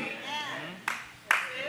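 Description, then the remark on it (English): A lone audience member in the back gives two sharp, light claps of praise about half a second apart, a sparse golf clap heard over a man speaking steadily. “Thank you for that one golf clap of praise in the back.”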